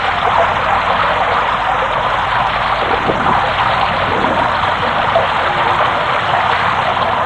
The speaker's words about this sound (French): Il se dit que la pluie cachait le bruit de la bagarre.